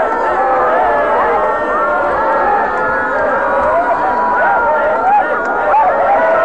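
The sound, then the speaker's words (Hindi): A large crowd shouts and yells all at once in a loud, unbroken roar while dancing and jumping wildly with joy, many voices rising and falling in wavering pitches with no pause for the full stretch. “जब मैं कहूं एक दो तीन तब बिल्कुल पागल हो जाना। आनंद से भरे, नाचे, कूदे, चिल्लाए।”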